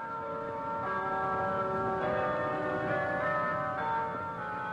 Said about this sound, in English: The church bells toll sweetly every day at the Holy Cross Roman Catholic Church on 42nd Street, only steps away from one of the most inhospitable yet busy street corners in the United States, 42nd Street and 8th Avenue.